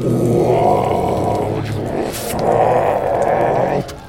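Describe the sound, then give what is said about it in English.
A person voices a monster's roar: two long, loud, gravelly growls, each over a second, with a short breathy pause between them. Both are rough and low-pitched, and the second ends abruptly. “Now, it roars, and you can just make out through the abomination of fangs that make up its mouth something akin to the words.”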